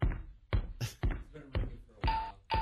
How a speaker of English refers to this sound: He's getting crazy with the bell, man. He's going to fucking break it.